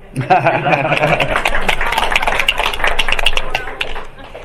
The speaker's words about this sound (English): Now we applaud.